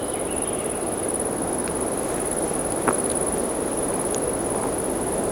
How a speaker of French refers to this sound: C'est la brise du vent qui passe dans la forêt. Forêt de conifères avec ses troncs dressés comme des mâts.